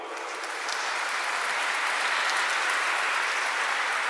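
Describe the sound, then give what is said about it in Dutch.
An audience in Sint-Andries applauds steadily, a dense wash of many hands clapping that swells slightly in the first half-second and then holds at an even, loud level throughout. “Voor al diegenen die de vakidiotie doorbreken voor de ware levenswijsheid, een applaus en een aureool.”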